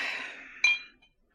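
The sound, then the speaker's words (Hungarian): Two drinking glasses clink together once in a toast, a bright ringing chime that lingers briefly and fades, following a softer ringing tone at the start, with no voices. “Töss el egészen a poharamat.”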